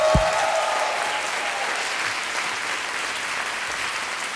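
An audience claps steadily in dense, sustained applause, a broad hiss of many hands that holds an even loudness for several seconds with no voices on top.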